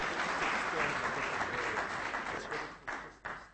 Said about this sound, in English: Magnificent 7. Let's give them a clap. Hallelujah.